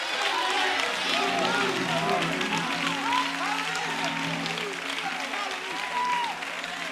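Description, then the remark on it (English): A church audience claps hands steadily as one loud, dense wash of applause, with scattered voices and shouts rising and falling underneath throughout. “Come on and clap your hands again.”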